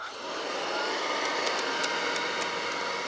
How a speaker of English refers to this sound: But a new plastic had been invented called Bakelite. So you begin to see Bakelite vacuum cleaners made after World War II. All right, so we'll run this one.